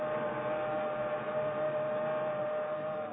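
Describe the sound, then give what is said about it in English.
A fast southbound express train approaches along the track past a station platform with a steady, roaring rumble and a sustained horn-like tone held throughout, loud and constant, with no voices. “He glances up the track, the fast-approaching southbound express.”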